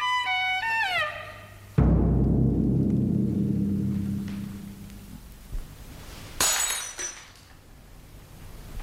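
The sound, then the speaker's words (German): A glass, dropped by a doctor, shatters with a sharp crash, followed by a long ringing, rumbling decay and a second bright tinkle of shards a few seconds later; no one speaks. “Sie haben das Glas fallen lassen, Herr Doktor.”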